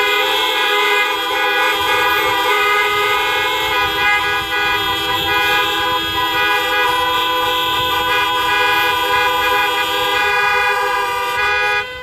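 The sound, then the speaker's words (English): Many car horns honked by an audience at a church service blare together in a sustained, overlapping chorus of honking that holds steady and loud for the whole stretch, with low engine rumble underneath. “Why don't we give a honk?”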